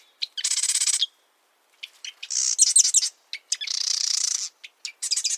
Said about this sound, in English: This chatty fellow is a marsh wren, a sprightly brown bird with a cocked tail. Wrens are known for their amazing singing, including loud, complex vocalizations. And they have a huge repertoire of songs.